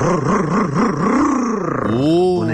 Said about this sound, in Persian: قربونت موتور تقویت کردم ببین چیکار میکنه.